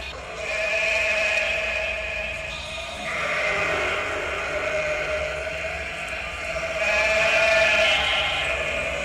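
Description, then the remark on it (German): A flock of 200 sheep bleating together in a dense, overlapping chorus, heard inside a container of an art installation, swelling in waves of loudness throughout, with no pauses and no talking. “In einem der Container hörte man ein Konzert von 200 Schafen.”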